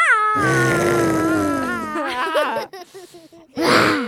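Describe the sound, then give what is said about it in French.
A six-year-old child's voice imitates a very small cat's meow: a long, drawn-out, high mewing that slowly falls in pitch, followed by a few shorter wavering bits and one more brief meow at the end. “Un petit chat, un tout petit chat.”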